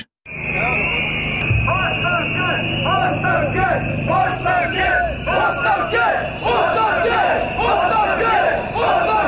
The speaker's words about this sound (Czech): Pištaljke i isti zahtev odzvanjaju ulicama Beograda peti put u posljednja dva i po mjeseca, otkako su pod okriljem noći nepoznati ljudi sa fantomkama srušili objekte u kvartu Savamala.